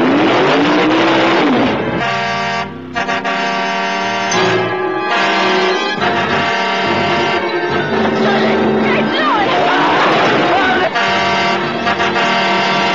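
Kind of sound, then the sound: vehicle, car engine roaring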